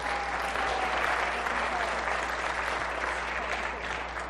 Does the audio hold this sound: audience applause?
yes